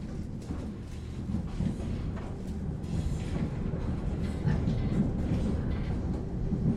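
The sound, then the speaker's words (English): Steady rumbling rattle of railway train wheels running over rails, a continuous low clatter that stays loud for the whole stretch, with no voices. “and gatang gatang rattle the wheels of the railway train.”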